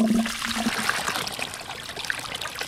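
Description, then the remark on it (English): Water gushes steadily through a valve twisted open at an irrigation gate on a peach and grape farm south of Fresno, in the Central Valley, carrying Sierra Mountain snowmelt: a continuous hissing rush with bubbling and splashing, plus a faint low hum in the first moments. No one speaks. “twists open the valve at an irrigation gate on his peach and grape farm south of Fresno”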